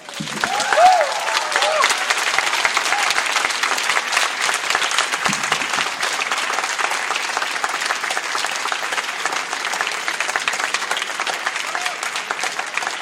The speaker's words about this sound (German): meine Damen und Herren, ein großer Applaus.